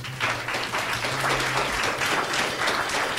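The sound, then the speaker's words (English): A studio audience applauds steadily, dense overlapping claps at a fairly loud level for a few seconds, with a faint low hum beneath, in answer to a question about whether George Bush will come out fighting in a debate. “How many expect George Bush to come out fighting? Applaud.”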